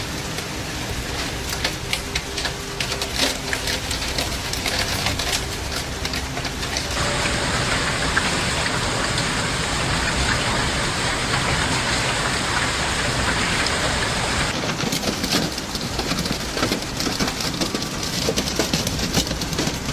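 Heavy rain pours down in a steady, dense hiss during severe thunderstorms in Piedmont and northeastern Italy, growing louder and fuller for several seconds midway before easing back to a constant downpour. No voices are heard.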